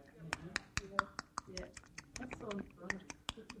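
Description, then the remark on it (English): A voice imitates an African click language, mixing a dozen or so sharp tongue clicks in an irregular, rapid rhythm with short voiced babbling sounds between them. “How many of you heard about the African language where everything is done by clicking?”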